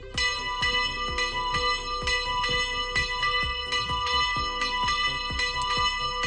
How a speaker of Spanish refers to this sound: A las 12 y cuarto, las campanas anunciaban el inicio de una ceremonia cargada de fe y devoción.